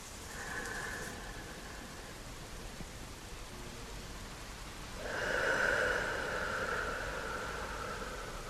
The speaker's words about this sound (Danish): Se om du kan få en fornemmelse af, hvordan dit åndedræt og bølgerne følges ad.